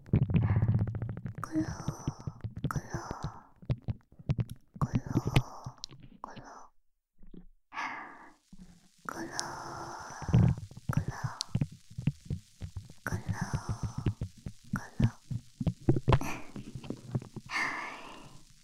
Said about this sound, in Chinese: 这个声音很奇妙吧？反复冲洗着你的耳朵，把耳朵里面的液体倒出来吧。